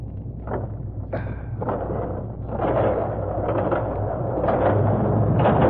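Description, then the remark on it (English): A heavy door drags open with a low, grinding rumble and a few sharp creaks, growing slightly louder over several seconds, with no voices. The door is being opened so cars can drive in. “Get the door open, quick.”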